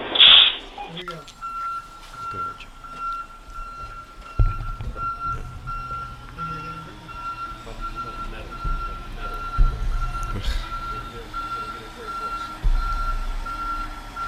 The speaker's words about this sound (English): Careful. Don't back up into the... All right. He's backing up his truck. Hold on. Give me a second.